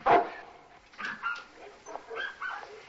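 Dogs barking and yipping in a busy, overlapping series: one loud bark at the start, then a string of sharper, higher yelps and barks at irregular intervals.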